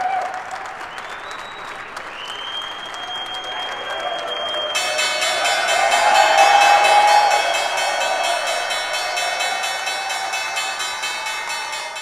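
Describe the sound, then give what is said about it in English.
President-elect Trump rings the opening bell at the New York Stock Exchange: a bell rings with a steady, sustained tone over crowd noise, then loud applause and cheering break out, swell to a peak and carry on to the end. “That was the bell ringing.”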